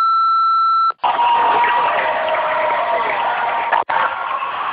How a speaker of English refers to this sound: As you can hear, that's people cheering.